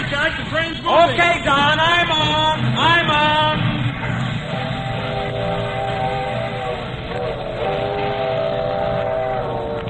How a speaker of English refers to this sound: Hurry, hurry, Jack. The train's moving.